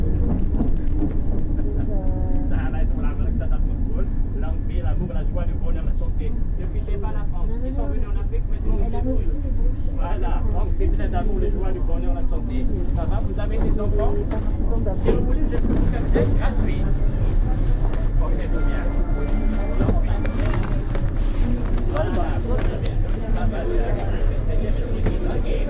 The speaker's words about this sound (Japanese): いやいやいやいや、あのですね、これはちょっと地下鉄の中なんですけれども、地下鉄が閉まると同時に入ってきたホームレスの人がいきなり、あのちょっとこのオフでラララララってすごいずっと同じテンションで喋ってる人がいるのをお気づきですか。